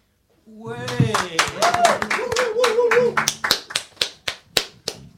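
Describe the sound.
A small group claps hands, quick uneven claps mixed with voices at first, then about eight sharp, evenly spaced claps alone that slow slightly toward the end.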